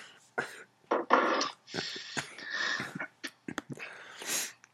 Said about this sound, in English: Sorry for the cough.